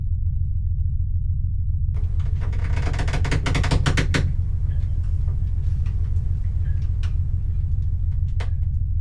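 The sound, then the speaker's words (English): A boat motor drones low and steady as the boat runs on the water, with a loud burst of rattling, churning noise early on, then scattered light knocks and clicks over the continuing rumble. “Jesus, this boat is going.”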